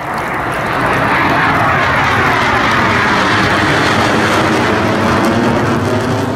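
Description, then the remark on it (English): A Navy Boeing EA-18G Growler jet roars overhead above a park, a loud, broad rushing roar that swells within the first second and holds steady, with whining tones sliding in pitch as it passes. No one speaks. “That is a Boeing EA-18G Growler.”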